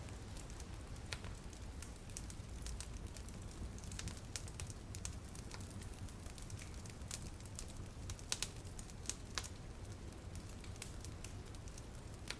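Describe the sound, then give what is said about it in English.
A fire burns steadily with a low, continuous hum, broken by frequent sharp crackles and pops at irregular intervals, a few louder snaps standing out. No one speaks. “Watching and listening to the fire hum and crackle away.”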